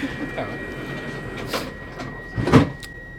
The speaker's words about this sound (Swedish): Då, så att, nu har vi tåget här så kan vi kliva på.